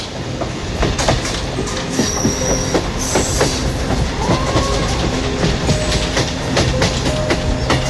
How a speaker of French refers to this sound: On va prendre le train, prendre littéralement, comme on fait en Inde à l'assaut. On monte dedans, on monte dessus.